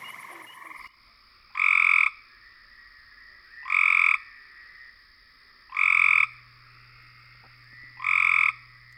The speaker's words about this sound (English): And if you knew that the first call was the gray tree frog and the second was Cope's gray tree frog, you're a frog call phenom.